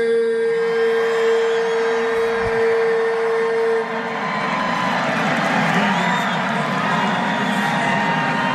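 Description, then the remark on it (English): A large arena crowd at a 90s night roars and cheers steadily throughout as a DJ hypes it up while Bucks players shoot around, a dense wash of voices, with a loud held tone, like a horn or synth note, sounding over it for the first few seconds. “So he's trying to hype up the crowd, and they're like, and I guess a lot of the Bucks players were shooting around while he was doing this.”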